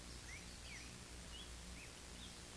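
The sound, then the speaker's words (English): Several faint, high bird chirps, scattered over a steady hiss of outdoor ambience with a soft rustle underneath. No one speaks. “And if you're silent right now, hey, you just heard a bird.”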